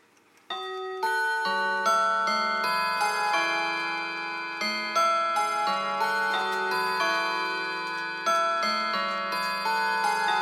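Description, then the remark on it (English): An Elliott clock chimes the quarter hour with the Whittington chime, its bright, ringing bell tones sounding a steady melodic sequence, each note overlapping the last as it rings out clearly with no talking. “Take it to the quarter two. My Elliott to the left of this does that same chime.”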